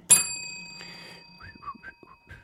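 A desk bell is struck hard once, a loud bright ding that rings on with a long, slowly fading tone, while faint chirpy, whistle-like sounds follow near the end.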